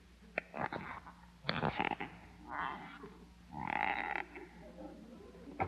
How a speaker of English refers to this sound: Squeaky shoes, 20 cents.